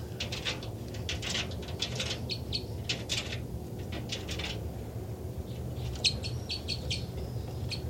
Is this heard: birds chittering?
yes